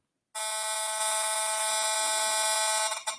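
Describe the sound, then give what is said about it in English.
A harsh, steady electronic buzz of a cell phone signal rendered through an RF meter, dense with high-pitched harmonics and a faint rapid pulsing, starting abruptly and holding loud for about three seconds. “Cell phone.”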